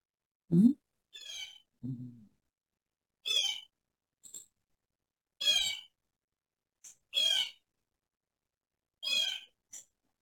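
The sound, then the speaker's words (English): A bird chirps indoors in short, bright, high-pitched bursts, about half a dozen calls spaced irregularly, with a couple of low throaty notes near the start and no talking. “Or we could pray, Lord, how'd a bird get in here?”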